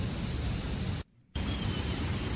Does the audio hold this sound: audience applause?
no